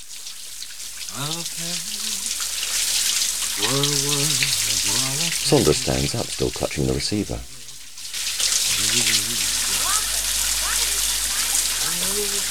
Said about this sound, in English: Richard's in the shower, eyes closed and hair hanging over his forehead. He washes his face with soap.